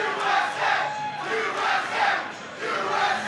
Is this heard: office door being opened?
no